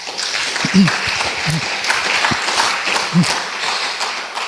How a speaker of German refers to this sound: Die Referentinnen und Referenten der Tagung, die ausnahmslos ohne Honorar für uns tätig sind. Ich denke, das verdient einen besonderen Beifall.